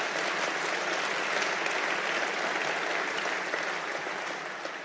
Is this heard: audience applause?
yes